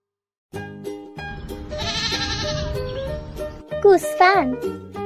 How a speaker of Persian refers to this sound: گوسفند ما گرمشه، بابا صدا میکنه، انگار داره شکایت از این هوا میکنه، پشماشو میتراشیم تا بابایی خنک شه